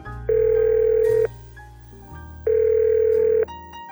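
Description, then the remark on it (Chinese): A mobile phone call's ringing tone after dialing a husband's number: two long, steady electronic beeps about a second each, separated by a pause, heard clearly with a low background hum and no voices. “我从包里掏出了手机，当着你的面看着你还日在我逼里的鸡巴，拨通了老公的电话。”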